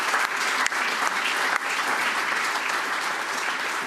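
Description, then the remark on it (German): Sustained applause from an audience at a meeting, honouring its organiser, a dense, steady wash of many hands clapping at an even volume for the whole stretch, with no voices standing out. “Deswegen mal ein kräftiges Beifall an”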